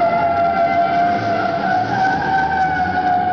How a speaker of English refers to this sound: This is a truck assembly line. Over this din of production, you're going to hear what some of the men and women who work here think about the world and their job.